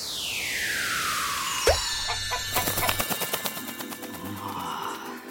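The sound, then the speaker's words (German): A long descending whoosh gives way to a sudden pop, followed by a rapid, loud run of sharp clucking bursts from an agitated flightless bird, likely a chicken, with no talking. “Es gibt's aber auch in Weiß und in Braun. Ist aber ein Vogel. Kann aber gar nicht richtig fliegen.”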